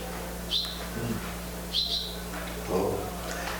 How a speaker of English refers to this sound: No, I mean, I liked it, but I just couldn't help but think the bird started chirping, you know.